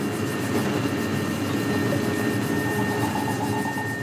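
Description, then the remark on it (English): A deep, steady droning tone from a large piece of space junk passing overhead, thick and rumbling, with a faint higher whine running through it and no voices. “And if a very big bit of junk passes overhead, then you hear a very kind of deep tone.”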